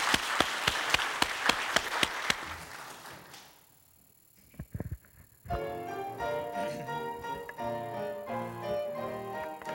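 A burst of applause for a family of performers, with sharp, distinct claps rising out of the crowd noise for about three seconds, fading into quiet before instrumental music begins.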